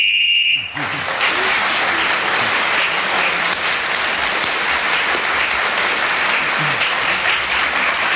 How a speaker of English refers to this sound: He kept going for the full 60 seconds, so he gets a point for speaking when the whistle went and a bonus point for not being interrupted.